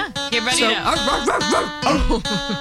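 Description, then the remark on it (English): A human voice mimics a dog, letting out a string of yipping, whiny barks with sliding pitch, fairly loud, pausing briefly before a final burst. “Go ahead and bark at it anyway.”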